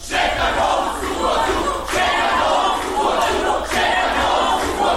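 A large crowd at Europride in Serbia shouts the protest chant "Hoćemo Pride" ("We want Pride") in unison, the loud, dense roar of voices rising and falling in a steady repeated phrase roughly every two seconds.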